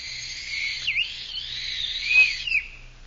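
An old, battered, musty little tin whistle is blown in one long, shrill, breathy note that wavers and dips in pitch for about three seconds over a faint low hum, with no talking.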